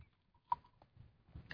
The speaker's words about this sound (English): Excuse me, I got to take a sip of water here.